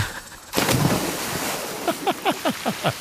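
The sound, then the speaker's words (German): After a brief quiet moment, a sudden loud splash erupts as someone jumps into water, followed by churning, sloshing water and a run of short bubbling gurgles. “Immer wenn er ins Wasser springt, schreit er Geronimo.”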